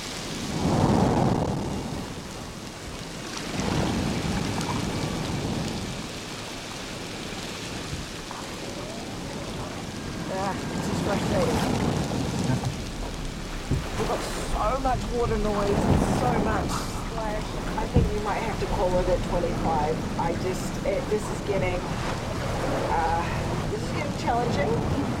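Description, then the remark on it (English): Water sloshes and laps steadily against a boat hull, a continuous wet wash over a deep low rumble, with indistinct voices murmuring faintly in the background partway through. “She continues listening as waves lap the boat.”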